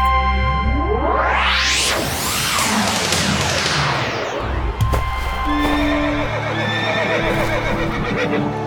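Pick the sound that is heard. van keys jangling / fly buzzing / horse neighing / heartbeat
horse neighing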